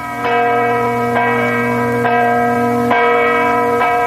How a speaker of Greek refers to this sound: Ο ήχος της κρυσταλλένιας καμπάνας ξανασήμανε. Ήταν κοντά, πολύ κοντά. Άνοιξε την πόρτα του και ο αγέρας μαζί με τον κρυστάλλινο ήχο γιώμησαν τα αυτιά του.